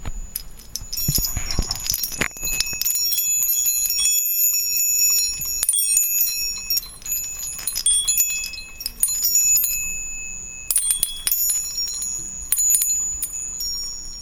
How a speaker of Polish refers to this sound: Takie delfinki. I one mają takie metalowe rureczki. I jak się je porusza, to one fajnie dzwonią, posłuchajcie sami.